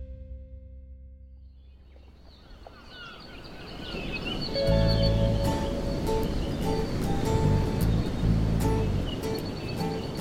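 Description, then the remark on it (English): Ocean waves wash and crash against jagged lava rock, building from a low rumble into a loud, sustained roar of churning surf, with faint birdlike chirps above and no voices. “he closes his eyes and listens to the waves hitting the jagged lava rock”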